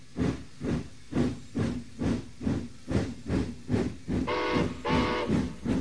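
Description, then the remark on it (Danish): A steam locomotive, run on steam from boiling water, chuffs along in a steady rhythm of hissing steam bursts, fairly loud, with a sustained steam whistle sounding twice near the end. “Det er vand, der koger og bliver til damp.”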